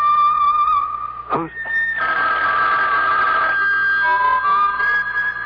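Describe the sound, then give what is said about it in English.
A telephone rings steadily with a bright, electronic warbling tone that swells louder partway through and keeps going. A brief voice cuts in once near the start. “Your phone”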